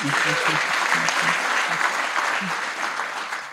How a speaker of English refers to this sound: Oh, yeah, you can clap.